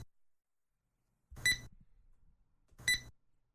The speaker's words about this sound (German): Das Geräusch der Kassen kennt wohl jede und jeder.